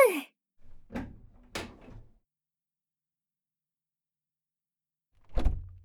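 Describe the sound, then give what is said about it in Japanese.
A door slides and bumps shut with a couple of solid knocks and a short rattle, then after a pause another heavy thud as it is latched or locked, locking up before leaving for a fireworks display. “戸締まり OK。”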